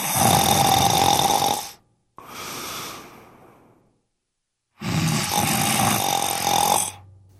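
Loud snoring in three long rasping breaths: a harsh snore, a softer quieter one, then after a short silence another heavy, rattling snore. No talking. Baba Yaga sleeps under an ice stump in the forest in a comic New Year tale.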